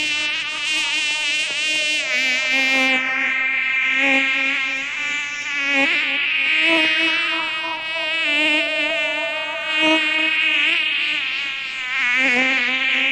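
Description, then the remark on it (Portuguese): A loud, continuous buzzing of bees drones on for several seconds, its pitch wavering and pulsing slightly, prominent with no other sounds or voices. “Não essas caixas de abelha.”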